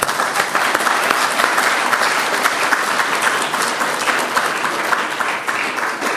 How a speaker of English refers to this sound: And I think we all need to give Gail a second round of applause.